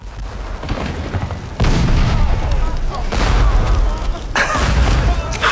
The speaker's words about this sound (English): ran up the English colours, let fly. Single, vast, prolonged explosion. The Victor would shatter in a minute.